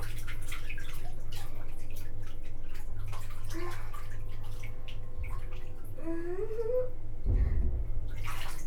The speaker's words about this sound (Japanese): 今お水の音が鳴るくらい頑張って触ってる。